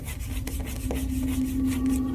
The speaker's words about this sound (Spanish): Mi perro está arañando la puerta de la habitación.